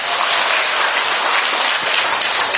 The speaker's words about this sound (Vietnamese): Rồi một tràng pháo tay thôi chúng con.